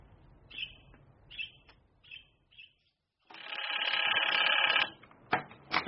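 A telephone at a call office in Ballylennon rings with a long, loud, rattling bell burst, preceded by several short chirpy trills and followed by a few brief jangles. Nobody speaks.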